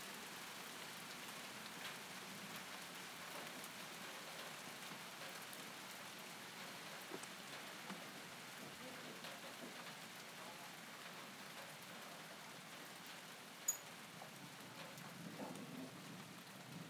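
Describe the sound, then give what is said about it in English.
Steady rain patters down continuously during a thunderstorm with lightning, a dense hiss of drops with a faint low rumble of distant thunder underneath and one brief sharp tap near the end. No one speaks. “It keeps stopping and starting, the rain.”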